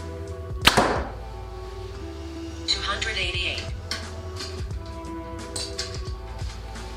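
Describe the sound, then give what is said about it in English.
A Hoyt Ventum 30 compound bow (70 pounds, 29-inch draw, 85% let-off) fires a 450-grain arrow with one sharp, loud snap near the start, followed by a brief ringing hum and a softer rushing noise a couple of seconds later, over a steady low hum. “Next arrow, 450 grains.”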